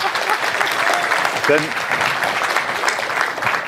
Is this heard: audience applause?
yes